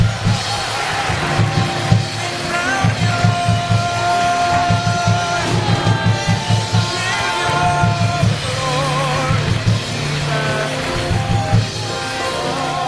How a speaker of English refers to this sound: Oh, one more clap and shout unto the Lord. Bless the name of the Lord.